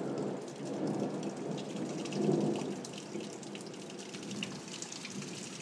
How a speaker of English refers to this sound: Hopefully you heard that. That wasn't as good as the one before. Still raining, but it has settled down a little bit. There we go. That'll probably do for now. The claps of thunder and lightning and stuff are quite a bit in between.